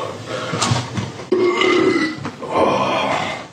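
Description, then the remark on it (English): A long, loud, rumbling fart with a buzzing, drawn-out tone that sputters and trails off over a few seconds, unaccompanied by talk. “I challenge any of you think you can fart bigger than me.”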